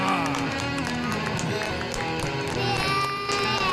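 A burst of applause with dense, steady clapping and cheering voices mixed in, staying loud and sustained for nearly four seconds.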